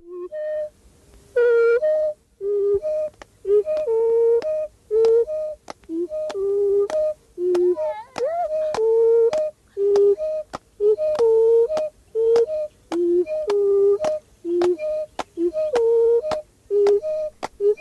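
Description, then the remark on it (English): A steady Pygmy song alternates short whistled notes with sung vocal notes, while sharp handclaps mark an even beat throughout. The pattern repeats briskly at a lively, regular tempo. “Regularly alternating one sound, which is whistle, and another, which is sung. That makes a song.”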